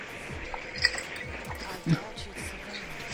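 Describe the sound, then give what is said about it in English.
Ice cubes clink lightly against a glass, a couple of brief, bright taps, with muffled voices murmuring in the background. “Did I just hear ice clinking in the glass?”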